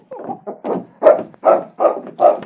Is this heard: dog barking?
yes